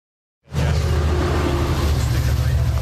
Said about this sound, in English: And we're back just in time for all of you to have missed the train that just whizzed by. I'll bet you we get another one before this program's over.